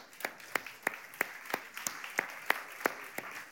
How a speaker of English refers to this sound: Okay, that was very good. Give yourself a hand.